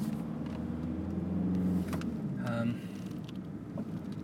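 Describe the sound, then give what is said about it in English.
A Volkswagen Passat engine hums steadily from inside the car, a low continuous drone with a brief rise in pitch midway, then settling back to a quieter idle rumble. “Yes, good old Passat.”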